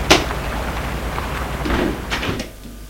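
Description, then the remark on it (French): A sharp lock click as a woman unlocks the front door of her five-storey apartment building with a key, followed by rustling and a couple of softer clunks as the door swings open, then quiet. “Elle ouvre la porte de son immeuble avec une clé.”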